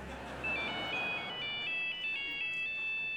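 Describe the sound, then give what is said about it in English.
A mobile phone ringtone plays a bright electronic melody of short stepping notes, repeating steadily for a few seconds, clear above a low background hum, ringing at the Albert. “And we'd appreciate you turning off your mobiles while we wait.”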